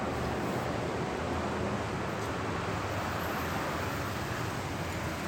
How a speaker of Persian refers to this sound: آدرس مرا اگر بپرسید، شما راهنمایی خواهند کرد به خیابان اصلی شهر، میان آن همه مغازه و همهمه مردمی که با صدای بوق ماشین‌ها و موتورهای خیابان آمیخته شده و هر شنونده ای را آزار می‌دهد.